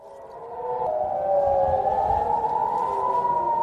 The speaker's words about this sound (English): Sirens in the coastal city of Haifa in northern Israel as rockets fired from Lebanon were intercepted by Israel's Iron Dome defences.